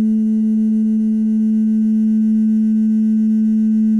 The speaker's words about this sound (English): The synthesizer sound that you hear at the beginning is actually a glass that I had, and I made it turn into like a glass harmonica by, you know, using, you know, like wetting my finger and running it around the rim.